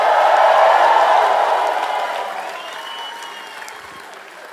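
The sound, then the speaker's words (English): An audience applauds during a sermon after being asked to give Jesus a praise, a dense wash of clapping that starts loud and steadily fades over several seconds, with faint crowd voices mixed in. “No, that's an applause.”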